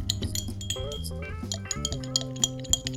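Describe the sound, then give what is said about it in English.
A spoon clinks and taps against a glass in quick, irregular strokes, stirring a cocktail with honey, with bright ringing tones over a low background hum; no one speaks. “Sounds like a little kid stirring a glass.”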